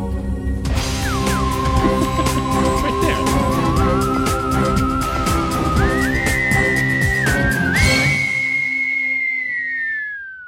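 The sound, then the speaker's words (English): A sustained, theremin-like electronic whistling tone that holds steady, then slides upward in a few gliding steps to a higher pitch, over a busy crackling, buzzing backdrop before fading out at the end. “It almost sounds like a lightsaber. Listen. It's a theremin more of a thing.”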